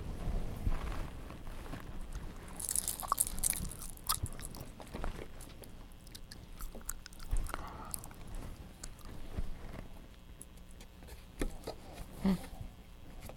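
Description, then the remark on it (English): A baby gnaws and mouths a set of keys, making irregular wet chewing clicks and soft crunches, with a brief bright metallic jingle early on. No one speaks. “No, you're going to eat your keys.”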